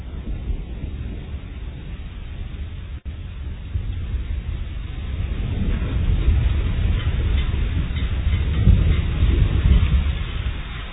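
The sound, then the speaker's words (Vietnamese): Heavy rain pours down in a steady, dense hiss while a deep thunder rumble swells and rolls louder through the second half. No voices are heard. “Và mưa bắt đầu nặng hạt.”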